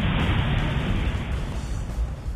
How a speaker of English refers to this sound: and the sound that I remember that I haven't heard in years is an airplane breaking the sound barrier.